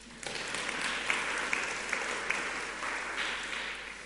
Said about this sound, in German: Kleinen Applaus für die Vorleserin.